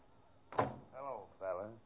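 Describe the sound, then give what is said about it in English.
A door opens with a sharp knock-like thump, followed by two drawn-out, wavering creaks of moderate loudness, with no talking. “I'd like to see that Lon Chaney walk through that door right now.”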